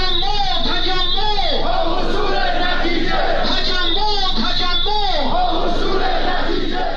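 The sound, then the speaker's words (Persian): A large crowd of protesting Social Security retirees in Khorramabad, Iran, chants slogans together in loud, unison shouts. The rising and falling phrases repeat rhythmically across all seven seconds, with no pause in the noise. “بازنشستگان تأمین اجتماعی در خرم‌آباد شعار دادند.”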